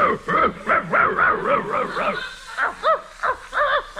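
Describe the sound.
A man's voice imitates a dog, talking "in dog" to a dog named Muldoon, letting out a rapid series of yips and short barks, then a few whimpering whines, fairly loud with brief pauses between bursts.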